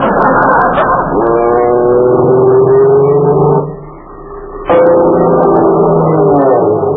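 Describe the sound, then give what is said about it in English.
A skywriter airplane's engine drones steadily overhead in California, its buzzing pitch climbing as it strains, fading briefly before roaring back up with another rising whine. “An airplane! Look, Uncle Steve, a skywriter!”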